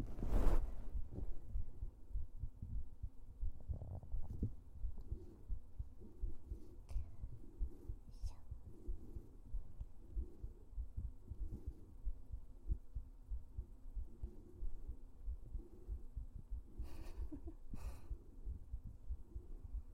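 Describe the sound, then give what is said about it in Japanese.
A steady heartbeat through a stethoscope, from a heart that sits left of the chest's center: dull, low thumps repeating in a regular rhythm over a muffled rumbling hum, with a few faint scratchy rustles. “私ね、真ん中よりほんと左にね、あるの心臓。”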